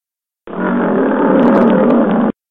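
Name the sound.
lion roaring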